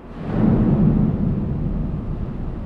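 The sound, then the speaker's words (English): Waves crash into a supertanker's bow at sea, heard from inside the bowels of the ship, with a deep, thunder-like rumble that swells within the first half second, then holds as a heavy, continuous low roar. No voices are heard. “In the bowels of a supertanker at sea, you can hear why environmentalists are concerned. Waves crashing into the bow sound like a thunderstorm.”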